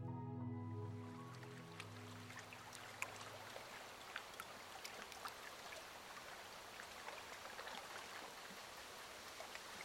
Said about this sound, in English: Nestled among rugged mountain peaks, the crystal clear waters are almost perfectly still. The gentle lapping of waves at the shoreline is the only sound for miles around.